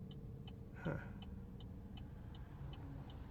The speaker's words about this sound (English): It's back. What is? Oh, the random beep? The beep when I break. It might be because your brake's wet.